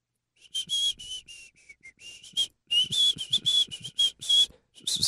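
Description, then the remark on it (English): A person whistles in a string of short, breathy bursts, the thin high tone mixed with lots of rushing air, uneven, with brief gaps between attempts. “Hold on, let's do our best whistle.”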